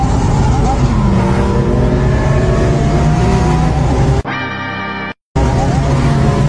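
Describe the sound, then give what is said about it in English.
A loud car engine revs steadily, its droning roar rising and holding for several seconds, then breaks into a brief buzzing tone and a short silence before the engine noise returns. The sound comes from a Rev King device plugged into the car's OBD port and set through a mobile app. “You just have to plug the Rev King to your car's OBD port, pair it with the mobile app, and choose your favorite sound.”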